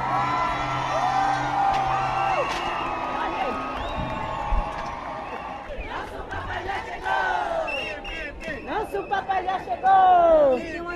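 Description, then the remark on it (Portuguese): A large, jubilant crowd welcoming Pope Leo XIV at the Mama Muxima shrine in Muxima, Icolo e Bengo province, Angola, by the Kwanza River, cheers and whoops continuously, with high shrill ululating cries rising above a dense wash of voices, growing louder and more excited toward the end. “No santuário da Mamã, Moshima, Leão XIV foi recebido por uma multidão em júbilo.”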